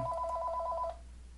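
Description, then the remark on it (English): A telephone rings with a rapid warbling electronic trill for just under a second, then stops, leaving only a low background hum. No one speaks. “Sorry for that interruption. Had to handle a quick phone call.”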